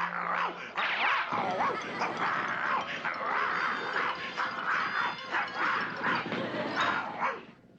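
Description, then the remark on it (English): A dog barks and yips excitedly in rapid, continuous bursts for several seconds, loud, with occasional growly edges and no talking. “Well, you see, you can't fool science. He's all dog.”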